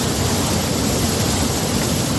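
swollen river rushing

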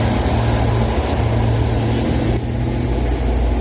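car engines

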